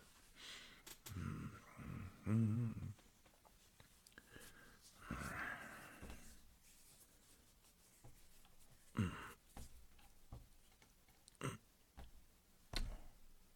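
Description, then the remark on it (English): Faint, irregular bursts of a cat scratching against a door, coming in short scraping strokes separated by pauses, with a few soft breathy snuffling sounds mixed in. “Fucking cat scratching at the door.”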